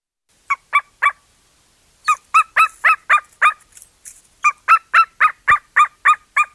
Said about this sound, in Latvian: Tas, kas izklausās pēc maza izmisuša kucēna, ir viens no lielākajiem Latvijā ligzdojošajiem plēsīgajiem putniem – klinšu ērglis.